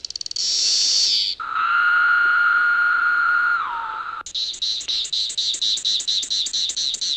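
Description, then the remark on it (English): Calls of three different cicada species play one after another on a demonstration machine built by teacher Adam Gerhardstein: a harsh high-pitched buzz, then a steady lower droning whine, then a rapid series of sharp pulsing chirps. All three are loud, with no talking. “She demonstrates a machine that lets you hear the differences between the three species.”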